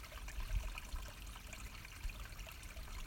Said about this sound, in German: Es ist plötzlich sehr, sehr ruhig, sehr still und hin und wieder plätschert ein Mini-Bächlein den Berg herunter.